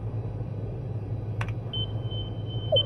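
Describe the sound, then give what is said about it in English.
A sharp sonar click is followed by a thin, steady high-pitched ping tone that lingers to the end, a rebound echo from something 95 meters below, all over a constant low engine-like rumble with no talking. “We got a rebound echo.”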